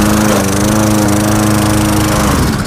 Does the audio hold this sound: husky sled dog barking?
no